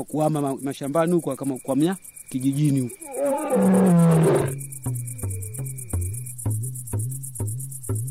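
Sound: lion roaring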